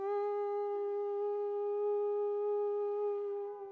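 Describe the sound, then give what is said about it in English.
A ram's horn sounds one long, steady blast, a bright, buzzy tone rich in overtones held at an even pitch for nearly four seconds, loud and alone with no voices. “All right, so here's the ram's horn.”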